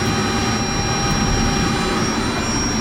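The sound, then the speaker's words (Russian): A heavy four-axle dump truck weighing over 17 tonnes is started up; its engine runs with a loud, steady, deep roar and a faint high whine on top, holding an even level throughout with no voices. “Посмотрим, как тут у нас с зажиганием.”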